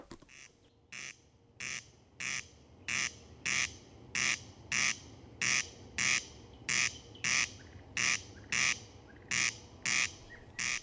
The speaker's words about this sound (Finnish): Ja nyt viikon luontoääni. Se on Ruisrääkkä ja Riku Lumiaro esittelee.